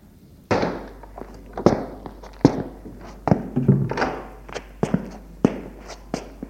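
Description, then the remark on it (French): Footsteps of a footman of about 18 entering and walking steadily across a hard floor toward a count, a series of sharp knocks and thuds at an irregular pace, with no voices. “Entre un valet de pied dans les 18 ans. Il s'avance vers le comte.”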